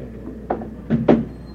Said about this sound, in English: You can't hear with this door open. The noise is blasting. Come on, close it, please.